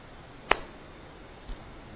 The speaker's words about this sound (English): Then what he said, what he did? Three clapping sound.